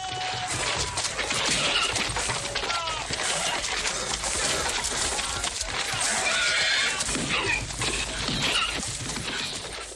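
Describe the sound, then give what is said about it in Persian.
The Cossack chief's horse neighs, whinnies repeatedly and spins around amid a loud, chaotic brawl between Cossacks and henchmen, with hooves clattering, crashes and banging, and voices shouting throughout. “اسب رئیس قزاقا دور خودش می چرخد.”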